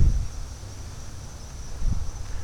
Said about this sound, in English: There's nobody out here, just frogs. Just a bunch of frogs.